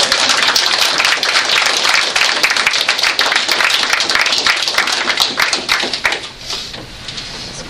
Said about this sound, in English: I know many times while they were singing, I thought, oh, I felt like I'm applauding. I thought, we don't do that in church, but I think it'd be appropriate if you'd like to applaud.